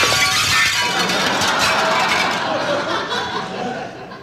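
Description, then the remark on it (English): A football smashes through glass French windows in a room of the White House: a loud crash of breaking glass, followed by a bright, sustained shower of shards and tinkling debris that gradually fades over several seconds. “This football, which has just come crashing through the $5,000 President McKinley French windows”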